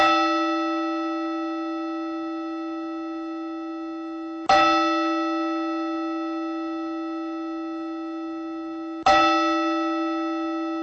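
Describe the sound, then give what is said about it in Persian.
A single deep church bell tolls slowly, struck three times about four and a half seconds apart, each stroke ringing out with a long, shimmering decay that carries into the next. “بر ناقوس‌های مرگ کمونیسم در سراسر رومانی کوفته شد.”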